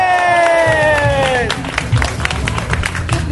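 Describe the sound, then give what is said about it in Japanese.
A long, drawn-out cheering shout with falling pitch opens, then an audience breaks into brisk, scattered applause with more cheers mixed in, lively, after the host asks whether he may hold the next event, DAF6. “あれ、まあ、拍手した人のね、2割ぐらい来ると思うんで、次回僕やりたいと思いますけどもね。”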